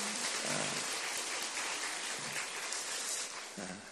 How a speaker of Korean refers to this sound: 우리 박수로 한번 격려합시다.